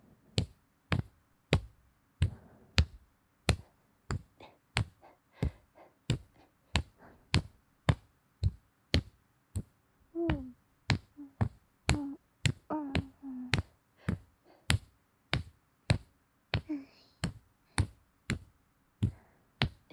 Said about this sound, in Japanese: トントントントンって肩を叩く気持ちいい音。 優しくトントントントン。